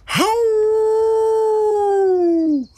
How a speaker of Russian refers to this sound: Взвыли волки от боли и наперебой стали рассказывать, что же с ними произошло.